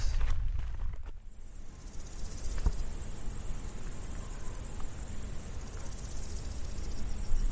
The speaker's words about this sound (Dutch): Het is hier echt een kakofonie van krekels. We staan langs het hoge gras. En met hoog gras bedoel ik echt gras van ongeveer 1,5 meter wat in bloei staat. De zon staat er keihard op te fikken.